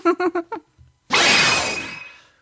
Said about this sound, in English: What was that one? Was that the sound of the bunny jumping through the glass? No!